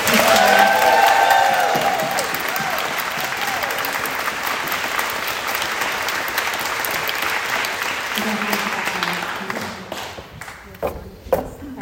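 An audience at a choir concert applauds loudly and steadily, a dense wash of clapping with a few cheers at the start, thinning out into scattered individual claps near the end.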